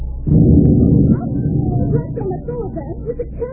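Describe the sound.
A loaded cannon, its fuse lit, fires with a sudden, loud, deep boom that rumbles for nearly a second before settling, followed by people talking as the roar fades beneath them.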